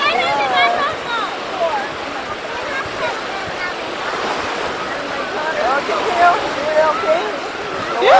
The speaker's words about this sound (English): I want to walk in the water. I like it. I'm walking in the very shallow water, everybody.